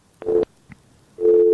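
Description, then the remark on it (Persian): A phone line's busy tone after a listener's call to a radio call-in show drops: a steady electronic beep cuts on and off, a short burst, a pause with a faint click, then the tone returns, loud on the line. “تماسشون قطع شد.”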